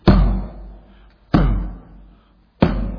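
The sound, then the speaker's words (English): Three heavy doors slam shut one after another at steady intervals, each a loud, booming impact with a reverberant decay. No voices are heard. “Door after door after door is shut to the devil's devices.”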